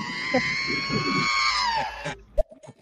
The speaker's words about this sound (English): That boy R2-D2 be screaming. That shit funny in the motherfucker when he be getting shot up.